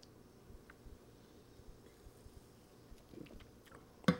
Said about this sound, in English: Let me take a sip of this Coke Zero, and I'll tell you about the session.